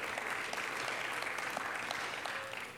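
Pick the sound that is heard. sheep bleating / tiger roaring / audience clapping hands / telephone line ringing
audience clapping hands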